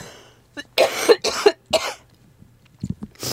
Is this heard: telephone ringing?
no